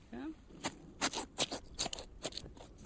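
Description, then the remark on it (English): A rib cage being cut open during a dissection: an irregular run of sharp, crunching snips, roughly seven or eight bursts, like heavy shears biting through bone, with a brief murmur of voice at the start. “It's opening up the rib cage now.”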